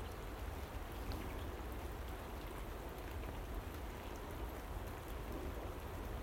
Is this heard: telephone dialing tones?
no